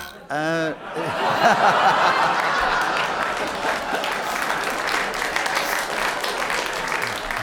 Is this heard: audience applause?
yes